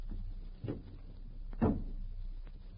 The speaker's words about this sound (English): Close the door softly.